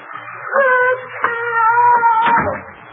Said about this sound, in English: Of course. The sound of that poor girl screaming. I couldn't stand it.